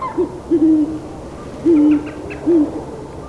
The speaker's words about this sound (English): The great horned owl sounds, a patina of deep, strong notes which carry through the canopy to where his mate guards their nest.